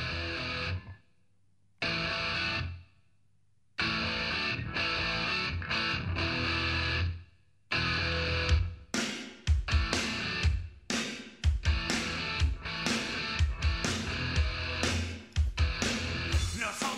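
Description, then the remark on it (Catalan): A hard rock song opens with loud distorted guitar chords played in stop-start bursts separated by short silences, then pounding drums join and the full band drives on steadily. “Doncs aquesta cançó ha servit de peça de presentació del …”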